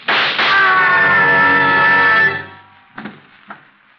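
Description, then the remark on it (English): A loud, sustained scream rings out downstairs for about two seconds, cuts off, and is followed by two sharp gunshots in quick succession, the second slightly fainter. “I heard a scream. Downstairs. So did I. And shots...”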